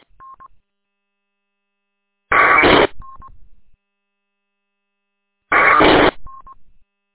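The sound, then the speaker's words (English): Two harsh, buzzy radio data bursts, each lasting about half a second and a few seconds apart, framed by short single-pitched beeps: a data package being transmitted back to station WAKWT. Nobody talks. “That's what a data package sounds like.”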